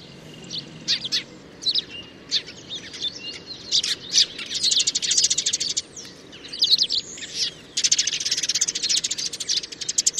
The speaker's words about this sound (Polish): Oprócz tego mazurki często wydają ćwierknięcia podwójne, co raczej nie zdarza się wróblom.